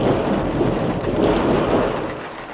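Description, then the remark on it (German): Steady heavy rain with a deep rumbling roar of thunder rolling through an April thunderstorm, loud and continuous without any voices. “Und nun auch noch Gewitter.”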